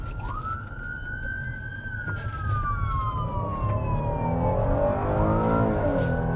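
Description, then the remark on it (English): A loud police siren wails, heard from inside a moving Fresno Police patrol car racing with lights and sirens to a shooting call in Fresno, a long rising-and-falling tone that sweeps down over steady engine and road rumble, with no one speaking. “Racing to the scene with lights and sirens in this city of 525,000.”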